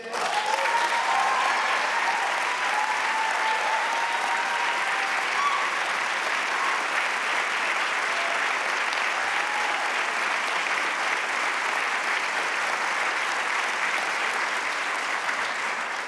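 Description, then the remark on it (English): A large audience applauds steadily for about sixteen seconds, a dense, even roar of clapping with a few faint cheers rising early on and no speech over it. “Thanks for the applause I get to drink.”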